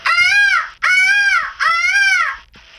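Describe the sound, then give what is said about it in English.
A girl's voice imitates a peacock call: three loud, shrill, nasal wails in quick succession, each lasting under a second, with a fourth starting as it ends, clear. “This girl makes mimicking animal sounds.”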